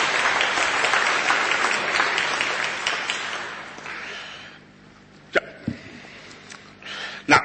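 An audience applauds a candidate with dense, steady clapping that gradually thins and fades out, leaving a few scattered claps and small knocks at the end.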